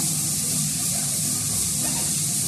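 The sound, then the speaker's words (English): Steady shower water sprays continuously in a bathroom, a dense, even hiss with no breaks or changes in level and no voices. “managed to rig a way to train for the heat by taking a stationary bike into the shower and steaming up the bathroom.”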